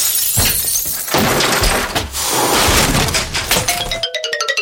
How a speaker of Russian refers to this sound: Ага, только эта их пирамида сейчас рухнет.